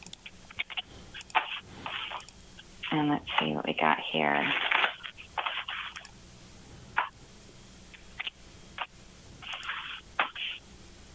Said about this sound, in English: I'm shuffling the cards and focusing on you.